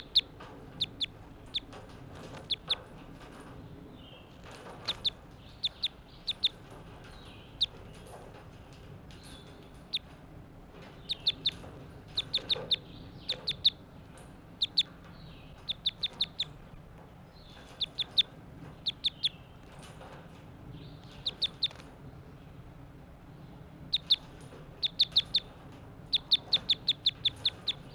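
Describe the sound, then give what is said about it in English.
A bird, identified as bird 85, calls over and over with short, sharp, high chirps in uneven bursts, some quick runs of clucking notes, set against a steady low background hum. “Call that bird 85.”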